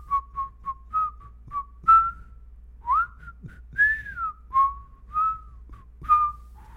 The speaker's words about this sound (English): You want to play a game real quick where we whistle tunes back and forth to each other and I try to guess what you're whistling?